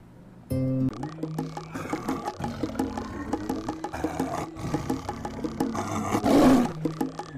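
A tiger roars loudly, a rumbling growl that rises to a peak near the end, with a rich, harmonic backing underneath and no talking.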